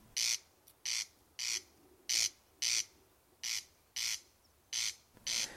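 A corncrake's rasping call played from a tape recorder on an outer-sea island while trying to catch a corncrake: about nine harsh, dry, scraping rasps repeated in a steady, even rhythm, fairly loud and alone with no voices.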